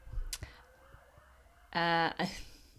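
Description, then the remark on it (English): A passing police car gives a short, loud siren blast, a steady buzzy tone lasting under half a second, with faint hushed voices and background noise around it. “There was just a police car going past.”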